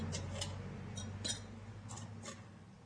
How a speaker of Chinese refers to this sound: 但是还不够，还要再加个冰块，嘿，因为太浓了，我们再加个，再另外再加个冰块进去。